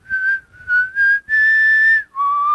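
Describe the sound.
A clear mouth-whistled tune with sustained notes in short phrases, wavering pitch and a final lower held tone, giving a slow, eerie feel, with no one speaking.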